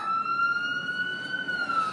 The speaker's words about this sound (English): Oh, here comes something with a siren to make a lot of noise over our broadcast. This is the risks of broadcasting on location. And it is an... An ambulance. It's an ambulance.